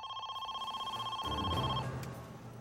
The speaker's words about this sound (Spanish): Más tarde esa noche sonó el teléfono.